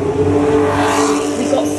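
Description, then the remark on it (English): A loud engine of a red race car rumbles past below, at the pit exit between high pit walls, a steady, throaty drone with strong low harmonics that shifts slightly in pitch near the end. “So they were beneath us, and sort of both sides where the cars are, the walls are quite high, which really amplified the noise. And we both sort of made this universal ooh face as it rumbled past us.”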